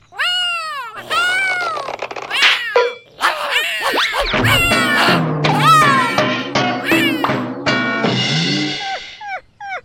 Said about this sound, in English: Meow.